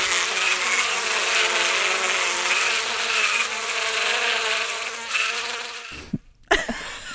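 A steady, dense buzzing of bees, used as a sound effect, drones loudly and continuously for several seconds, then cuts out abruptly near the end with a brief gap and a short burst.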